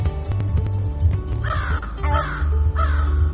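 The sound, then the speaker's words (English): A crow sound effect: a crow caws loudly several times in a row, harsh rasping calls over a steady low background hum. “This was a crow.”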